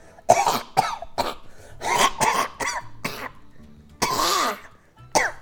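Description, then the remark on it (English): A loud fit of wet, phlegmy coughing from a man coughing all over his hands: a string of harsh hacking bursts in quick, irregular succession, a short pause, then a longer rattling cough and one last hack. “He coughs all over his hands. It's kind of wet and phlegmy.”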